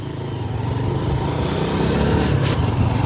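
A motorcycle taxi engine drones steadily as it sets off toward Butare after the rain has eased, a continuous low rumble with a slight rise in intensity toward the end and no voices.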